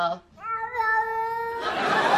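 A cat lets out one long, drawn-out meow that rises and holds steady, clear, followed by a burst of hissy, rustling noise.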